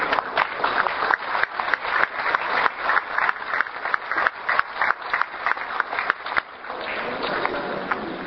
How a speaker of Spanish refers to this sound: y también la quiero felicitar a ella por este esfuerzo, está allí, aquí con nosotros, y quisiera un aplauso también para ella.